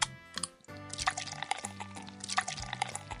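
Beer is poured into a glass in bursts of glugging and splashing. A steady tonal background hum runs underneath, and no one speaks.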